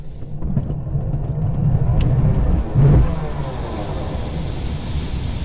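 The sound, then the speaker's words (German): A glider's winch launch, accelerating from 0 to about 120 km/h within a few seconds: a steady low rumble mixed with rushing wind noise that swells briefly into a louder surge about halfway through, then continues at an even, fairly loud level. “Start an der Seilwinde.”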